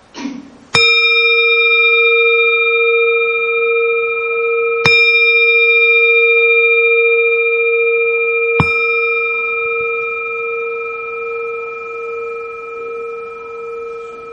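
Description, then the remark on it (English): A bell is struck three times, a few seconds apart, to guide three breaths, each clear metallic tone ringing out long and steady before slowly fading away into quiet. “First, I ask you to just breathe three times, you know, following that this bell.”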